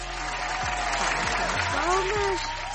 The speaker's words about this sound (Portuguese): Palmas, palmas.